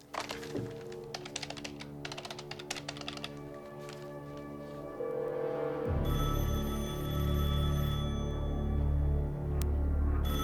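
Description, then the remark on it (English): Rapid keyboard typing clatters for several seconds, then gives way to the steady, tonal ring of a wall-mounted public telephone at the end of a narrow corridor, over a low rumble that continues to the end. “A warm red glow floods a narrow corridor, at the end of which a wall-mounted public telephone is ringing.”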